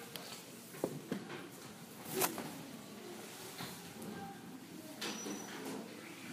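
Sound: door being closed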